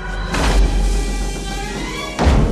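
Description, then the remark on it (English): A heavy kiln door at a school falls off its hinges, with a loud booming thud, a rumbling clatter, then a second heavy slam as it lands, over a steady low rumble. “The kiln door falls off its hinges, and the sorceresses step out of the smoke.”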